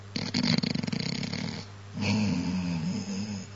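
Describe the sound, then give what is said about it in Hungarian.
A person imitates snoring: a rattling, buzzy inhaled snore followed by a smoother, drawn-out exhale, fairly loud, with no talking over it. “Lehet, hogy még horkolt is.”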